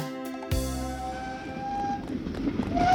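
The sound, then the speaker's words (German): A locomotive in a Bibi und Tina audio play rolls by with a steady, rumbling chug and a thin whistling tone above it, growing louder toward the end after a few closing notes of music. “Du wirst dich doch nicht von einer Lokomotive abhängen lassen!”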